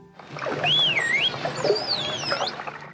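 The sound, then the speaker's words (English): A smooth computer-generated whistle for 'ball', produced by pressing a button on a keyboard, glides down and back up, then the dolphin Delphi imitates it with a similar swooping whistle, both heard over a steady, noisy underwater background. “After the computer-generated whistle, you hear Delphi imitate it.”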